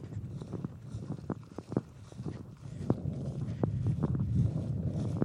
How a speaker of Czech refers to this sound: Nalevo vedle toho pole vypadá, že vede silnice. Jezdí tam nějaký auta a už se zase zvedá vítr.